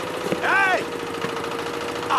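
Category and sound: vehicle, tractor engine running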